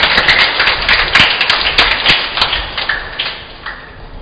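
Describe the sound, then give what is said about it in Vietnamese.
An audience at Mass in Vĩnh Hòa parish applauds to congratulate the new executive board of the parish Mothers' Association, with dense, steady clapping that overlaps into a crackling wash, fairly loud at first and gradually thinning out toward the end. “Xin cộng đoàn cho chàng vỗ tay chúc mừng ban chấp hành Hội Các Bà Mẹ Giáo xứ Vĩnh Hòa.”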